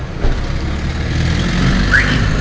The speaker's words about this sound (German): Ein bisschen Verkehr ist immer noch.